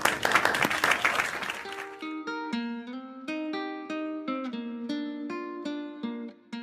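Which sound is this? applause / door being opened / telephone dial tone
applause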